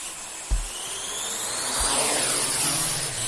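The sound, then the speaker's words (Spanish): The rotors of a small drone, about 30 to 40 centimetres across, buzz in a steady, fairly loud whir whose pitch sweeps slowly up and down, with a couple of low dull thumps underneath and no voices. The drone is flying at the eruptive vents of a volcano. “Ahí están, son los drones, ¿no? Estos aparatos se han metido prácticamente en la boca del volcán y están siendo esenciales para saber el comportamiento de, bueno, pues del volcán, de las bocas eruptivas, de la lava,”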